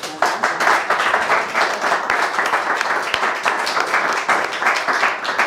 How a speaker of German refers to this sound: Ja, gibt's Applaus von unserem Publikum her.